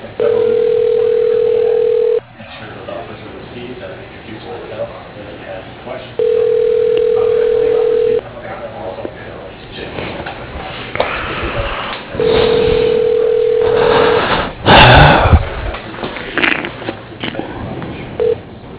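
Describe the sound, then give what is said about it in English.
A phone line rings back while a call is transferred by an automated directory to extension 101: three steady two-second tones, evenly spaced with pauses between, over faint hiss and line noise, with a fourth ring just beginning at the end. “For your reference, you are being transferred to extension 101.”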